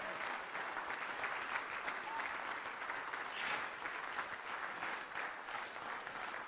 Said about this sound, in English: Could somebody give Jesus a hand clap of praise that we're claiming we want everything back the lowdown devil ever took from us?